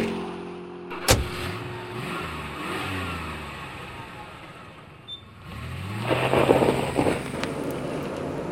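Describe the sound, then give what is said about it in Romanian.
A car engine cranks to life with a sharp jolt, then revs up and rises in pitch as a family car with children pulls away to go to the zoo, followed by another burst of accelerating engine noise. “Bun, atunci haideți să urcăm în mașină.”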